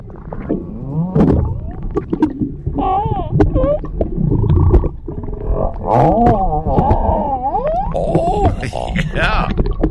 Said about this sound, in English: There were whales out there. Some guy took his waterproof cell phone and put it under the water and caught some pretty cool sounds of these whales talking to each other.